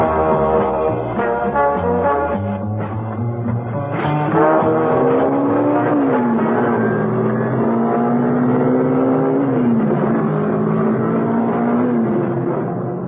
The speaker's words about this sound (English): out on the open road, Mrs. Peel was able to put on some speed. There was no traffic about, luckily, and the car responded like a rocket.